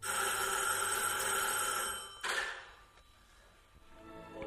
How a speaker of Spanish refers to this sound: En esto, rasgando el silencio del estudio, empezó a sonar el timbre del teléfono.